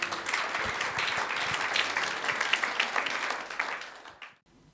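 Steady audience applause: dense, crackling claps spread across a broad hiss of many hands, fairly loud and sustained for about four seconds before fading abruptly into near silence.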